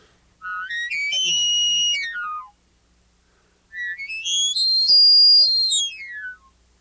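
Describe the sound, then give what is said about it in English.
Two long, rising-then-falling whistled bugles from a game call imitating a bull elk, each starting low, climbing to a sustained high, piercing tone with strong harmonics, then sliding back down, separated by a short pause. “I've got another call over here, and this is another sound that bull elk will make, and I think it's just chillingly beautiful.”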